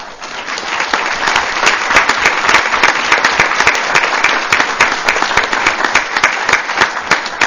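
Sustained applause from students honoring their parents at a recognition ceremony for San Luis Obispo County high school seniors, many hands clapping in a dense, steady patter that stays loud and even for several seconds with no talking over it.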